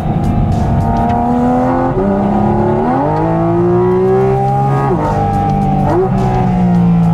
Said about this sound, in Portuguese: O som do carro é espetacular, né? É maravilhoso. Olha, olha o ronco do motor, gente. Vou até acelerar um pouquinho agora.